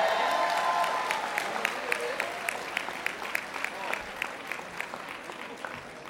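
An audience at a magic performance breaks into applause to answer whether they ended on their index finger, many hands clapping in a dense, steady patter that fills the room for several seconds before gradually thinning out toward the end.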